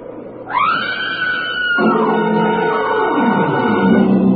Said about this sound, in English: Now, look, get over there inside the barn and scream. Long and loud, huh?